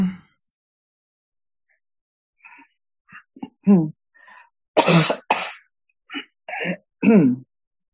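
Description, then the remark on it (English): A person with tightness in the chest coughs several times during an energy-release session, with two harsh, forceful bursts in the middle among smaller throaty coughs and strained voiced sounds, separated by short silences. “Yeah, cough all you need to.”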